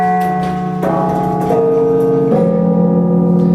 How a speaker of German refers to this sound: Diese 60 Glocken hängen in dieser unteren Glockenstube, direkt quasi über unseren Köpfen.